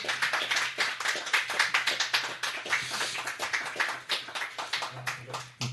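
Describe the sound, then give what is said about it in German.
Dense, sustained, thunderous applause from a crowd as two people swap seats, loud, with many overlapping claps forming a continuous roar for several seconds, mixed with a low hum. “dann könntet ihr ja vielleicht beide, vielleicht mit einem donnernden Applaus garniert, die Plätze tauschen.”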